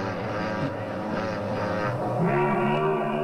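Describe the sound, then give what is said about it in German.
A motorcycle engine drones steadily, its buzzing harmonic tone dipping and then climbing higher partway through, growing slightly louder toward the end with no talking over it. “Das hört sich wie ein Motorrad an, ne? Das ist auch ein Motorrad.”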